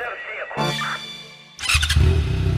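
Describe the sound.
An XT dirt bike engine revs, its buzzing drone climbing, then bursts into a louder, rougher roar over a heavy low thump, with a voice faintly present.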